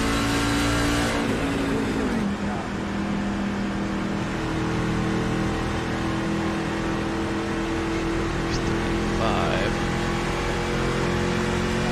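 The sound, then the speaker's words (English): Steady engine drone from several race cars circling at reduced speed under caution, with pits open and the pace car in turn 3; a constant mid-level hum with occasional pitch shifts as engines rise and settle, loud and continuous throughout. “Pits are open. That's the 11. Yep. Pace cars in turn 3.”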